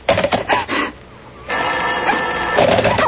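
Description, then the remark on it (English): A telephone bell rings loudly, first in a few short rattling bursts, then after a brief pause in one long, continuous clanging ring. No one speaks. “Oh, what's the matter with this phone? Hello?”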